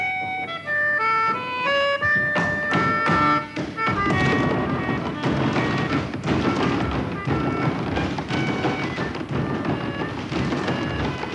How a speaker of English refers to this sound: The thundering sound of wood on wood poured out of every workshop at the Steppers' get-together.